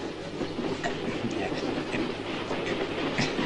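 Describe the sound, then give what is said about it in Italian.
A moving train rattles steadily along the rails, a continuous loud rumble with repeated clacking of wheels over track joints. “Eh sì, finché il treno arriva a destinazione.”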